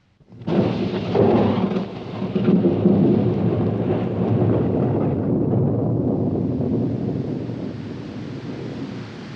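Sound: thunderstorm with rumbling thunder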